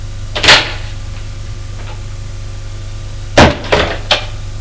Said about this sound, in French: Elle a frappé à la porte. Entrez.